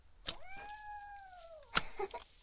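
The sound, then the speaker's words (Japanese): A person imitates a cat's meow with one drawn-out, steady-pitched vocal tone lasting over a second, clear, with sharp taps just before and after. “猫っぽい？”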